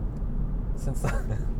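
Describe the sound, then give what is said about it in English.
A steady low rumble fills the inside of a moving car, a constant drone throughout, with a brief snippet of a voice surfacing midway. “Since I'm totally uninspired by this car.”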